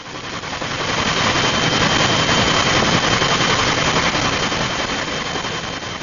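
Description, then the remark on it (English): A NOAA Bell 212 Twin Huey helicopter in flight on support and survey missions over the Gulf Coast after Hurricane Katrina, its rotor chopping in a fast, steady thrum over a dense wash of engine noise that swells up at the start and holds loud throughout. “The NOAA Bell 212 Twin Huey helicopter flew support and survey missions from August 31st to September 21st.”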